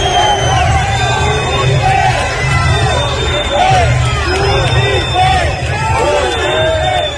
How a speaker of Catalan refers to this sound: Sentiu de fons aquesta nit en aquests actes tradicionals i ha tornat a haver insults i xiulets com l'any passat, aquests crits de botifler, això sí, una mica més amplificats, més constants